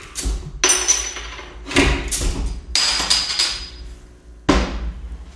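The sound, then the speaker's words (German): Several sharp clinks and knocks of glass and bottles as drinks are refilled and set down, arriving in irregular bursts with ringing high overtones and no talking. “solange Markus Nachschub macht, an der Stelle der Hinweis, hier könnte eure Werbung kommen”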